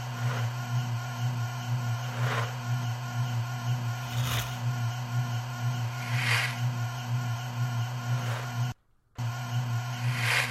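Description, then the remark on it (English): A steady, low electronic engine hum, part of an engine malfunction noise, drones on throughout a video game, with a few brief hissing swells recurring every couple of seconds and a short sudden cutout near the end. “I guess the humming noise is part of the engine malfunction noise.”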